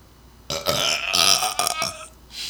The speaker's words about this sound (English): Sorry. Had to burp. Hope that didn't disrupt your eardrums too bad.